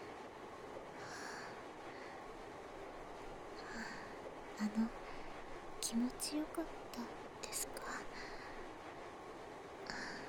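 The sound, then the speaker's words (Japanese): A steady, low rumble like the inside of a moving train carriage, which has become crowded, runs throughout, with a soft voice speaking quietly over it. “電車が混んできた時はどうなることかと不安でしたけど、気持ちよく、いえ、快適にやり過ごすことができたみたいでよかったです。”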